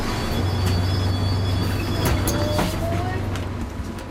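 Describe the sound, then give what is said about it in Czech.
A bus rumbles past with a steady low engine drone and broad road noise, a faint rising whine briefly audible as it goes. “Tak teď jede nějaký autobus. To je on, přesně.”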